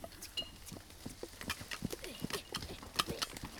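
Soft, quiet footsteps tap along in a loose, uneven rhythm, a little hard-edged like steps on a firm floor, with no talking over them.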